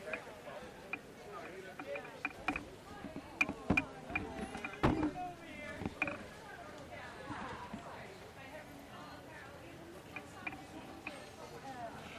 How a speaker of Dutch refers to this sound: Ja, oh ja, oh sorry, ja, ja, we lopen hier nog steeds met kabeltjes te sjouwen.